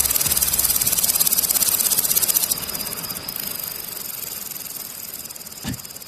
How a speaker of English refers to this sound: You hear that? See, that's the ever so calming sound of grasshoppers. Yeah, that's right.